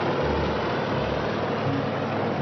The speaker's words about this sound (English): Decker looks around. Covers his ears as a helicopter lands.